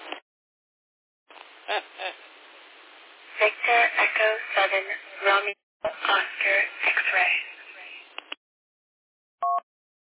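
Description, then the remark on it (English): A radio repeater identifier, triggered manually: a thin, band-limited voice transmission lasting several seconds, then a pause and a single short two-tone beep. “That's a repeater identifier, but I just triggered it manually there.”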